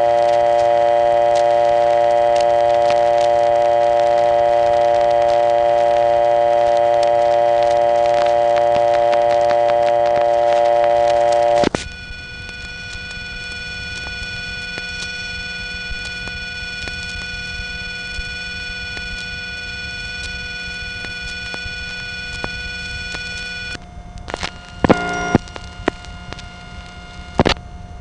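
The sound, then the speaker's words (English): A steady, loud telephone dial tone hums for several seconds, then times out and cuts to a faint line; near the end, a brief run of sharp mechanical clicks from panel switch revertive pulsing rattles through, two revertive digits connecting the line to the permanent signal holding trunk. “Notice that as this dial tone times out, there are two revertive digits just to connect him to the permanent signal holding trunk.”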